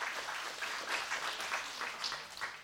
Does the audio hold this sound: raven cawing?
no